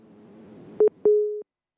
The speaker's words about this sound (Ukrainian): Отже, отець, вже маємо телефонний дзвінок. Думаю, ну, ще дуже зарано. Бачу, що вже хтось до нас телефонує.